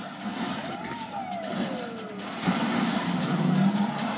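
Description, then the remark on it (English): A car in a movie action sequence spins and peels out, a whining engine tone sweeping up then sliding down over a dense rumble of traffic-like noise, which grows louder toward the end; no one speaks. “Listen, in any movie where a car just spins around and peels out like that, I love it.”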